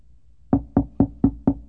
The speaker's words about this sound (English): Hear the knock on my door. I always knew the knock. I always knew who it was. That particular knock.